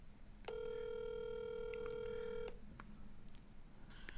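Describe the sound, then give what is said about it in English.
A phone call connecting, with one steady electronic ringing tone lasting about two seconds, followed by quiet line hiss and a few faint clicks. No one speaks. “All right, now you're calling”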